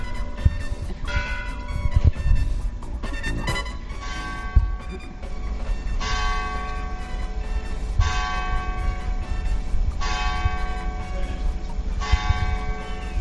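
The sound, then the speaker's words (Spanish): Church bells of the parish church of San Miguel in Villanueva de Córdoba ring the hour at 9 in the morning. They clang in a busy overlapping peal at first, then settle into slow, evenly spaced single strikes about two seconds apart, ringing out loud and resonant over a low background rumble. “Están sonando las campanas. ¿Es en la iglesia de dónde? La parroquia de San Miguel, Villanueva de Córdoba.”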